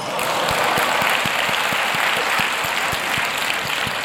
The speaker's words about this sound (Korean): 박수.